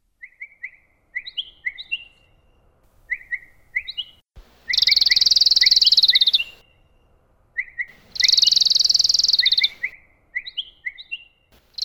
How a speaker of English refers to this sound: Now the bird sings.